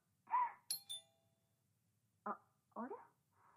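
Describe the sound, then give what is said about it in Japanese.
A single electronic doorbell chime rings out clearly late at night, its bright tone fading over about a second, with a few short muffled sounds before and after it in otherwise quiet surroundings. “あれ、もしもし、ピンポン来たから一回切るね。”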